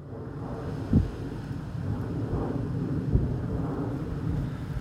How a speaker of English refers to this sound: As a plane flies overhead, just glancing back one more time towards the valley that's stretching out before us once again.